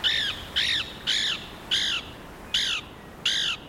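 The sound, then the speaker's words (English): A Lewis's woodpecker gives six harsh, evenly spaced calls, each a short raspy squawk with a slight downward sweep, repeated about every half second with no one talking. “Lewis's woodpeckers also nest along rivers in large cottonwoods, trees of little value for timber.”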